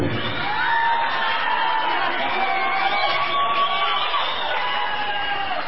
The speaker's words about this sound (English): most of the people that were applauding out here were the women. I don't get it.